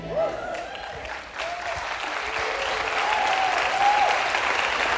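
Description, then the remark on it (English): A crowd claps steadily for about five seconds, a dense, even patter that swells slightly toward the end, with a few faint voices rising above the applause. “Do you love church, golf clap church, or do you love church like God is better than the Cardinals church?”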